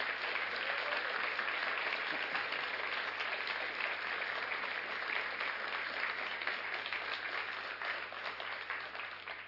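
An audience gives a pastor an extra round of applause, a dense wash of many hands clapping steadily at an even, loud level for the whole stretch, with no voices breaking through.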